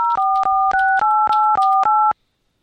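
A rapid run of about eight telephone keypad tones, each dual-pitched beep sounding loud, pressed back to back as a 10-digit account phone number is entered into an automated Verizon phone menu, then silence.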